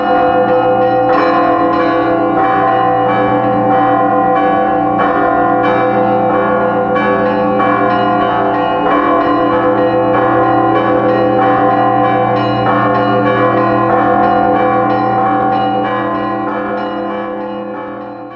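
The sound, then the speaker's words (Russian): Rapid, continuous Russian Orthodox church bell ringing of the Trinity Lavra of St. Sergius, in the fast Moscow style, with many bells clanging in quick overlapping strokes over a deep sustained hum, loud and steady throughout before easing slightly at the end. “Вот московские звоны, они все быстрые, они все темп все время очень быстрый, да, особенно если вот слушать звон Троицы Сергиевой Лавры.”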